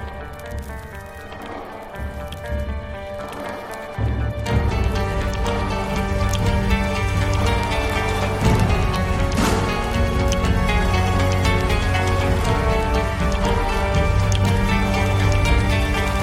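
Outro music plays with no voices, opening on layered sustained tones before a heavy bass line kicks in a few seconds later, then continuing full and steady at an even volume to the end.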